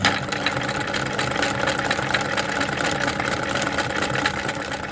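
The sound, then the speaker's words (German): A sewing machine more than 100 years old runs in a 500-year-old house in Steyr while old books are made into bags, its mechanical whirring and rapid clatter holding steady and fairly loud for the whole stretch, with a fast, even rhythm and no voices. “Ich arbeite mit alten Materialien in einem 500 Jahre alten Haus, in einer 1000 Jahre alten Stadt, mit einer Nähmaschine, die auch schon mehr als 100 Jahre am Buckel hat.”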